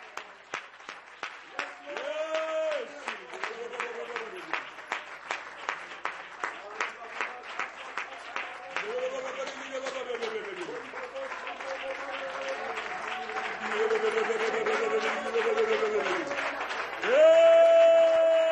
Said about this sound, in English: Would you clap your hands to Jesus one more time? Would you clap your hands?